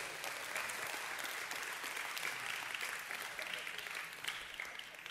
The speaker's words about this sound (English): Yeah, give him a clap.